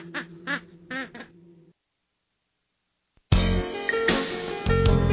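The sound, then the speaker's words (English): Several short, nasal squawks from chickens ring out, then after a brief silence a loud burst of flapping, scrambling commotion erupts as the chickens are chased, continuing to the end. “Hey, stop chasing those chickens.”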